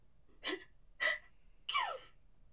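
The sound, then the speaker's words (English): Three sharp sneezes in quick succession, each a short, breathy burst, fairly loud, with the last one slightly longer and more voiced, as dust falls off a Santa suit taken out of a box. No one speaks. “Bless you.”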